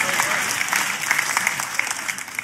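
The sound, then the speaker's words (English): An audience claps steadily, a dense, continuous patter of many hands at a fairly even loudness with no talking over it. “And if everybody who was clapping did it, we would never have another bill.”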